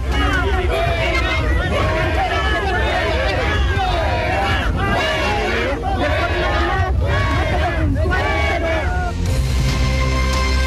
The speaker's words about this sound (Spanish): Bien, ahí escuchábamos gritos de la gente que le decían al presidente Gabriel Boric que se fuera.